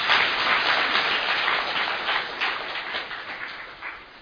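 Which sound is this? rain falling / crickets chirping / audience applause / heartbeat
audience applause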